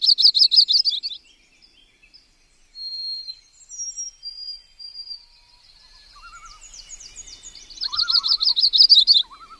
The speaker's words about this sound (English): Small songbirds, such as this yellow-rumped warbler we're hearing, are the most common of the migratory birds of the boreal forest.